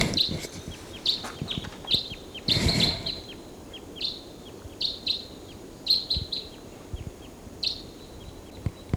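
crossbill flight calls

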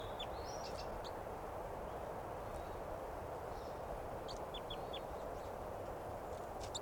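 wild bird chittering

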